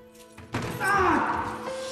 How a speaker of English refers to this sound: He bangs his head.